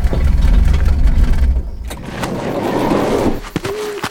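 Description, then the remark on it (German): A car engine rumbles loudly, then fades into crunching, rustling noise as the car turns onto a bumpy path and rolls over rough ground in among large bushes and scrub, ending with a few knocks and a short squeak. “Dann bog Nero in einen holprigen Weg ab und versteckte den Wagen zwischen großen Büschen und Gestrüpp.”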